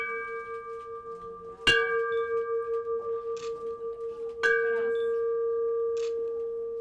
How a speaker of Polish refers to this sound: Po wygranej chorobie z rakiem pacjent uderza 3 razy w dzwon zwycięzcy jako symbol wygranej z rakiem.